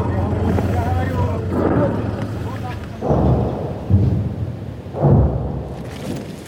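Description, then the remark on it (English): Several deep, rumbling Russian artillery explosions boom at intervals of a second or two, heavy, over a constant windy outdoor background with faint muffled voices, on the front line in Ukraine's Kharkiv region. “What once rained down on the second city of Kharkiv now lands here.”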